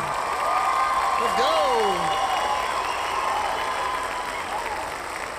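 A canned applause sound effect played from a soundboard button on Riverside to mark a 40th birthday: dense, steady clapping that holds at an even loudness for about five seconds, with a few brief rising and falling cheer-like whoops early on.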